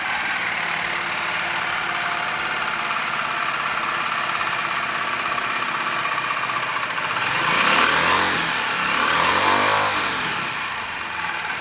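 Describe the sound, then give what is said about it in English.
A small 250 cc prototype engine, built in 2021, runs steadily on a dynamometer test stand, producing 16 horsepower at 3,500 rpm; its loud, even drone is broken by two rising and falling revs near the end. No one speaks. “In 2021, a real and functional engine was built, and tests were carried out with the dynamometer. This is the sound that the engine produces.”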